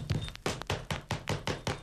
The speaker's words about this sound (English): Gee, you know that groovy sound sort of sounds like somebody knocking on the door. I will go over and see.